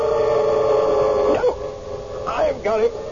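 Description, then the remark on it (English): A small white dog with a curly tail yelps a few times in short, high-pitched, wavering cries, heard over a steady droning background tone. “Little white dog, curly tail.”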